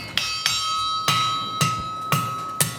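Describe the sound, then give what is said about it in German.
Six sharp hammer blows on an anvil at a steady, slightly uneven pace, each strike leaving a bright, bell-like metallic ring that sustains between hits. No voices. Steel is being forged by hand with hammer and anvil beside a blazing fire, working out the rough shape of a knife. “Jetzt kommt das Anstrengendste: Schmieden von Hand mit Hammer und Amboss neben dem lodernden Feuer.”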